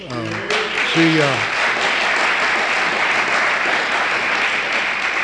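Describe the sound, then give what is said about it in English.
A room full of people breaks into steady, sustained applause that carries on for several seconds, with a brief voice heard at the very start as the clapping swells. “I didn't start off to get her applause, you know.”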